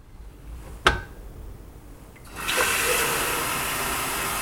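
A sharp click, then after a short pause a steady, fairly loud hiss of steam from an authentic Russian electric samovar, used as a water kettle and decoration, starts up and keeps going without letting up.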